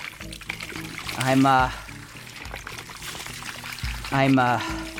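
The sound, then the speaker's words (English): Water poured from a Home Depot bucket in two short bursts, each a splashing gush that rises in pitch as it fills, separated by a few seconds of quieter background with a low voice murmuring. “I got a Home Depot bucket full of water and a bunch of towels, and it's all laid out.”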